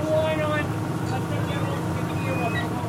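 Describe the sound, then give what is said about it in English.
A squid fishing boat's engine drones steadily at sea near Montauk, a loud, continuous low rumble with a faint mechanical whine above it and indistinct voices mixed in. “Back on the squid boat near Montauk”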